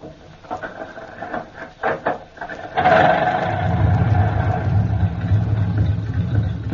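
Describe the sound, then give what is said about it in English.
The Colonel's car engine, just worked on by Eddie Rickenbacker, cranks with a few sputtering turns, then catches and settles into a steady, loud low idling rumble. “All right, let's crank her up.”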